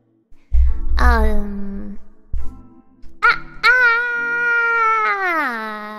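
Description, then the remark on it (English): A person screams loudly into a microphone: a short falling cry, a pause with low thumps, then a longer sustained high-pitched scream that drops in pitch at the end. “I'm gonna scream into the microphone.”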